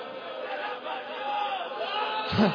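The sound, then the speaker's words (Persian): A crowd at a Persian rowzeh mourning gathering roars and cries out together in a dense, sustained wash of voices, with a louder swell of shouting near the end. “حالا که از گوشه کنار صدای نعره‌ها بلنده، بیاید همه با هم روضه خون باشیم و با هم گریه کن.”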